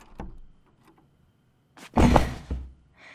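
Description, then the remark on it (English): A door being unlocked: a soft click, a pause, then a loud rattling clunk of the latch or bolt, followed by a faint trailing rustle. “I'm gonna unlock the door now.”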